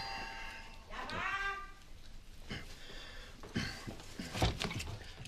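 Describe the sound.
A doorbell rings with a bright, buzzy tone near the start as a visitor arrives at an apartment landing, followed by muffled voices and some bustling movement.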